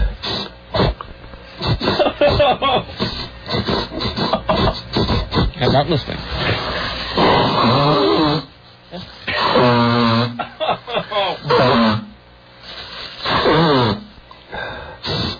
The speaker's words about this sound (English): It's the sort of muddy sniffing. It's the quick sniffing that's making me a little... And it's the sniffing with just a little chunkiness in it. That's the one. It's like you're sniffing. It's like the sniff that eats like a meal, you know?